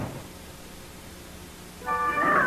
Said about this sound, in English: I sure wish you and them kids hadn't dragged all these carnation cats in here. Well, where else would we take them, Mr. Tibbett? After all, this is the city pound. Yeah, but I just don't like to have them around. I can't stand all this caterwauling.